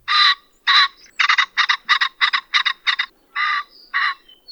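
A ringneck pheasant, also called the common pheasant, gives a rapid series of about a dozen harsh, raspy call notes, loud, some bursts doubled, with short gaps between them and no voices.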